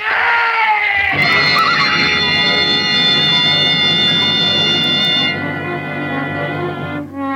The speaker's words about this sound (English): The horse stumbled. Of course he stumbled. That trail's for mules, not horses.